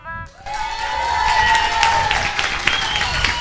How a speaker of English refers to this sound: Vous pouvez rester sur la scène. Magnifique, on les applaudit bien fort, ils le méritent.